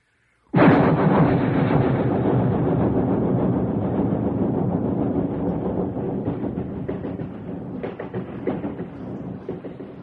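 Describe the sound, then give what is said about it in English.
A loud, long train roars past, bursting in abruptly and holding a dense, rumbling clatter that slowly eases over several seconds, with no voices. “You can hear this sound anytime you happen to be around a train.”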